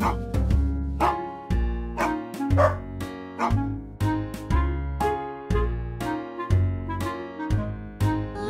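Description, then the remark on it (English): A dog barks in quick, regular bursts, roughly two per second, timed to a steady musical beat with a sustained bass backing underneath. The barks are loud. “I hear a dog, dog, dog, dog, dog. I hear a dog.”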